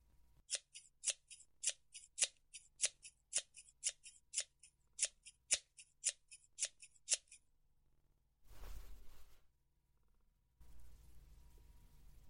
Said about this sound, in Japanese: 手は拘束したままだから、上はハサミで切っちゃうね。